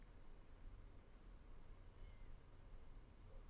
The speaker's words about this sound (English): Let there be a sense of taking your seat right in the middle of your life, which may or may not involve cats. Hello, kitty.